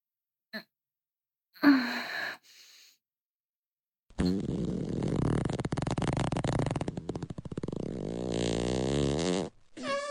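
A brief blip and a short breathy burst, then a long, loud fart in a toilet that rumbles for several seconds and turns into a higher, squeaky, pitched tail before stopping abruptly.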